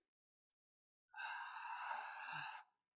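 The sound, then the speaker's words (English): A slow, airy inhale through an open mouth lasting over a second, ending with a small throaty catch like a brief cough, with no talking. Breathing in through the mouth dries the throat, which causes the cough. “See how it made me cough?”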